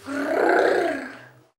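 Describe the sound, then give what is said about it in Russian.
A single deep, rumbling growl from a wolf at a house swells and fades over about a second and a half, loud, heard on its own with no talking. “Волк побежал к дому и зарычал.”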